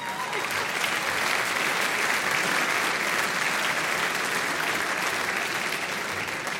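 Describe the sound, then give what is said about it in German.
Sustained applause from an audience, a dense, steady patter of many hands clapping at an even volume for several seconds, with no voices standing out. “Applaus für”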